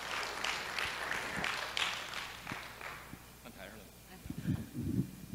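An audience claps steadily for a few seconds, giving applause to God and welcoming a sister up to share, the applause thinning out toward the end, followed by a few low thumps and shuffling sounds.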